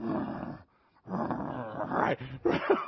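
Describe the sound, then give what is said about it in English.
A person imitates the growl of a tiger behind thick glass coming right down to a girl: a low, rough, rumbling snarl in two close bursts separated by a short pause, with the second rising into a harsher, louder growl. “She walks up to the glass, you know, and all of a sudden this tiger goes, shoom, shoom, and just comes right down to her and then starts doing this.”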